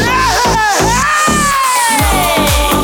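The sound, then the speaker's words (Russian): A crowd of voices shouts "Ded Moroz" (Grandfather Frost) together in loud unison, calling for him at New Year, with rhythmic, drawn-out syllables and a sustained chanted note filling the whole moment. “Мы крикнем Дед Мороз.”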